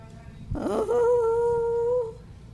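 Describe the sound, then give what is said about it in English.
A new dog whimpers once: a short rough burst slides into a long, steady, high-pitched whine lasting over a second, fairly clear over a low background hum. “He's a new doggy.”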